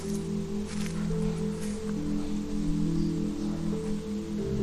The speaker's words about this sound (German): Du hörst das Rascheln der Blätter im Wind und das Vogelzwitschern.